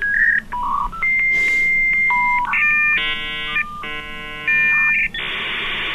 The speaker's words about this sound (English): the anachronistic tones of a dial-up modem are not a reminder of the past. It's how she connects with the digital world today.